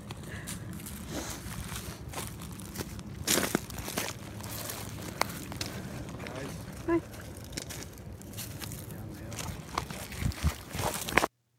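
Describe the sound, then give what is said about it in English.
Footsteps crunch over loose rocks on a path down a hill, a steady run of gritty steps with a few sharper scrapes, while muffled voices murmur underneath. “It's just, there's a rock crunching, but they're trying to debate how to get down the thing, down the hill.”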